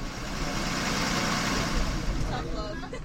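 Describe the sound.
A steady, loud engine rumble and road noise from inside a moving school bus on the ride home, continuous throughout, with faint indistinct voices mixed in near the end.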